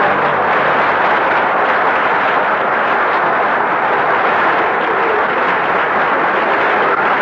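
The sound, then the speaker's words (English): Sustained applause from a large studio audience, a dense, steady wash of many hands clapping at once, loud, holding evenly for several seconds with no voices over it. “No applause, please.”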